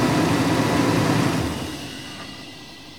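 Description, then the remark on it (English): A car engine idles with a steady low rumble, then shuts off about halfway through, its hum fading into quiet background noise. No one speaks. “Sorry, son, said my mom, turning off the car.”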